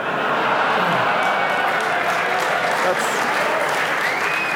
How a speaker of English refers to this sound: Why are you clapping that? What the fuck? What's that about?